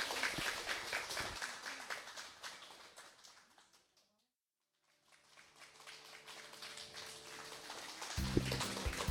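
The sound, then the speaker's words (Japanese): Dense applause from a large audience fills the opening seconds, then fades to a brief silence before a second wave of clapping builds back up, with faint low tones at the start and end. “どうぞ拍手をお送りください。”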